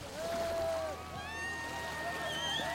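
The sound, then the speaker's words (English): A rubber boat packed with soaking wet refugees lands on a beach on Lesbos through steady, rushing surf from a stormy gray sea, with several people's voices calling and crying out over the continuous wash of the waves. “A rubber boat lands, packed with soaking wet people.”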